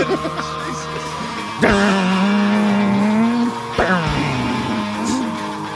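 A midrange-heavy electric guitar plays loud, sustained notes, with two sharply struck phrases that bend and wail before settling into held, slightly wavering tones.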